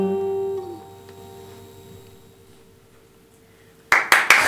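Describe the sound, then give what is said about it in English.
A held musical tone fades into near silence, then loud hand clapping suddenly bursts in over the last half second, several sharp claps in quick succession. “I'm just clapping on just like that.”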